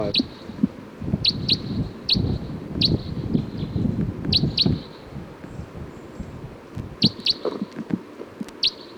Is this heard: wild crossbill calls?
yes